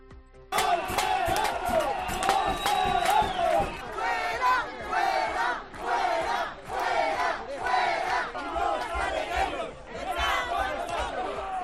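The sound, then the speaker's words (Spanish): Neighbors protesting in front of a house shout loudly in rhythmic, chant-like bursts while rapid metallic clanging of frying pans and pots rattles underneath, steady and continuous for the whole stretch. “La tensión escaló rápidamente entre sartenes, ollas y muchos gritos.”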